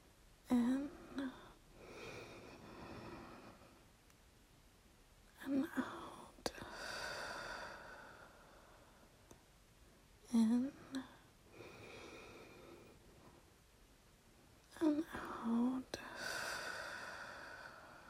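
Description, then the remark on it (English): Slow, calm breathing during a guided relaxation, in about four long, soft airy swells, each rising and fading over several seconds with quiet pauses between them, with faint whispery voice sounds at the start of some breaths. “Just keep breathing like that.”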